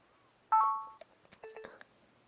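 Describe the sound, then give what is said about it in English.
Electronic beeping from a recorder as a recording is stopped and saved, signalling please wait: a steady mid-pitched tone that fades out, a few soft clicks, then a second, shorter pair of beeps, with no one talking. “And that beeping means please wait.”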